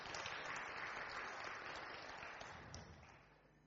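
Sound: audience clapping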